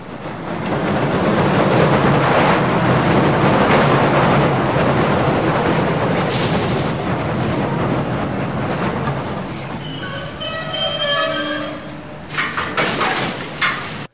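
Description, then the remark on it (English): A train pulls into a station with a loud, steady rumble, then its brakes let out a high, wavering squeal as it slows to a stop, followed by a few clunks. “Oh, here comes my train.”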